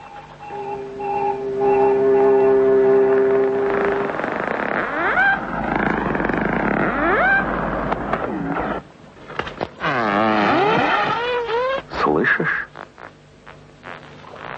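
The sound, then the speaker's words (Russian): Dolphin echolocation clicks from a dolphin with special shields placed over its eyes to switch off its vision: a few sharp scattered pops, mixed in among long warbling whistles and moaning, sweeping tonal calls that dominate the sound. No one talks. “Издает такие звуки в самой мутной воде, самой темной ночью он найдет самую маленькую рыбку. Это эхолокация.”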